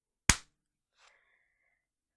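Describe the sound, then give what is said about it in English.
One sharp, loud hand clap with a quick decay, followed about a second later by a faint, brief high-pitched squeak. No voices. “I'll clap.”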